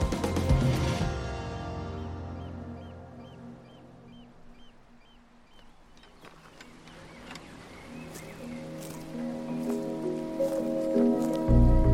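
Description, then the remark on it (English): Steady rain patters down while wind gusts around it on Rathyn Island, swelling at the start and end and easing through the middle, with a low droning hum underneath and no voices. “My final impression of Rathyn Island as we're leaving is it might be a little bit wet, it might be a little bit windy.”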